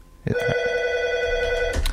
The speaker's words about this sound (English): All right. Well, we can hear a phone ringing. We know there's somebody that wants to talk to us.